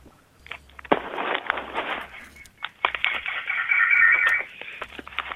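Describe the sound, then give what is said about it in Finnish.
A radio plays in the background over a telephone line from a caller in Vantaa, thin and band-limited, with muffled, crackly sound running continuously at moderate loudness. “Se oli radio.”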